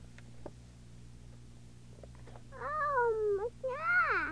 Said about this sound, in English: Oh, meow. Yeah. Wow, says the kitty. Meow.